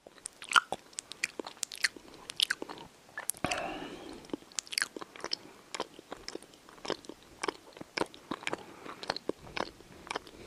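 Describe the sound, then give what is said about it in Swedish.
Loud open-mouthed chewing with wet smacks and crunchy bites repeating in an irregular rhythm for the whole stretch, with no talking. “Alltså smaska, prata i mun med så här, när man har mat i munnen och så här, tuggar högt.”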